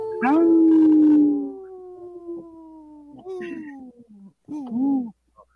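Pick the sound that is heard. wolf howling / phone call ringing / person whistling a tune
wolf howling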